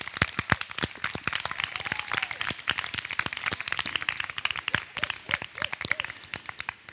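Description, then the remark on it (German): A crowd at a children's adventure camp claps steadily throughout for all the camp staff, dense overlapping hand claps forming sustained, lively applause, with a few faint voices or whoops mixed in underneath. “Und wir können nochmal für alle Mitarbeiter klatschen.”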